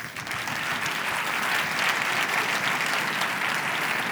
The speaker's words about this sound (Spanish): Y vamos a recibir con un fuerte abrazo y a, bueno, con un fuerte aplauso y abrazo si queréis también, evidente, se lo merecen, a Gwen Griffiths, CEO de Cupra.